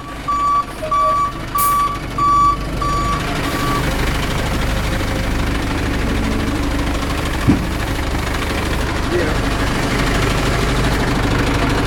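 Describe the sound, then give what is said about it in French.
A delivery truck's engine rumbles steadily as it is maneuvered into place at its first customer's stop, with a series of evenly spaced reversing beeps sounding for the first few seconds before the idling drone continues alone. “Donc quand on arrive au premier client, voilà, on met notre camion en place.”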